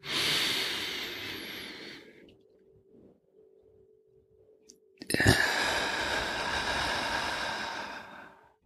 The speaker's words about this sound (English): Let's do this 2 more times. Breathe in. 1, 2, 3, 4. Hold in for 2, 1, 2. Breathe out for 4, 1, 2, 3, 4. And 1 more time on our own.